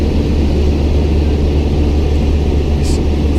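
airplane cabin engine noise

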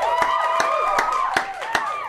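clapping

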